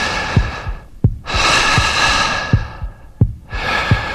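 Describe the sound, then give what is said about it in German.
Airy human breaths, long in and out cycles with brief pauses between them, over a steady low thumping heartbeat. No one speaks. “Pro Atemzug atmen wir einen halben Liter Luft ein und aus.”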